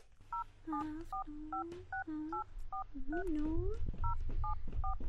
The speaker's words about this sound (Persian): دختر مادر با پدر جان تلفن کو ببین که کجاستن، ما نان بخوریم یا که منتظرش باشیم. بچشم مادر جان، انالی شماره پدر جان من میگیرم.